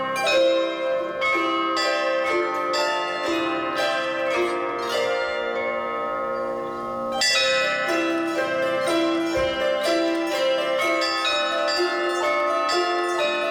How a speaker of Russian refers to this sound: Авторские произведения «Навстречу солнцу» и «Праздничные звоны» прозвучали в сопровождении настоящих колоколов